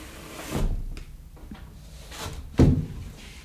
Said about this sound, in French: Je ferme la porte de la véranda parce qu'il fait un peu froid.